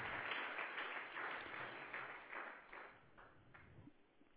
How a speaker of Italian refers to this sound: Amen. Forte applauso al Signore. Al Signore della gloria.